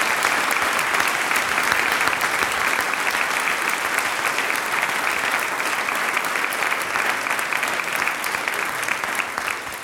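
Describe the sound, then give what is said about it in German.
A crowd in Bad Radkersburg, Austria, claps steadily and loudly to welcome the Pomurski Tamburica Orchestra from Slovenia, a dense, even wash of many hands with no pauses and no voices rising above it. “Das Pomurski Tamburica Orchester ist aus Slowenien angereist und ihr kriegt jetzt schon einen Applaus.”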